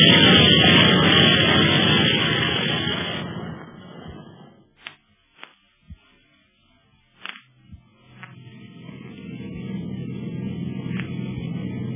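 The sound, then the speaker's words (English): A loud, steady airplane engine roar fills the first few seconds, then cuts away to near silence broken by a few sharp clicks, before a softer, muffled motor drone, heard from the back of the plane's cabin, returns and holds steady. “What a plane. You can hardly hear the motors back here in the cabin.”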